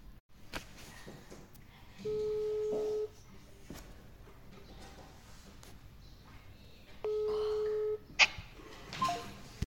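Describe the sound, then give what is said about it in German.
Two steady, one-second telephone tones about five seconds apart, like a line ringing before someone answers, clear and fairly loud over a quiet, slightly noisy background. “Hör dir das Telefongespräch an.”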